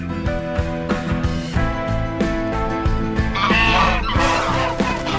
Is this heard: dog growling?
no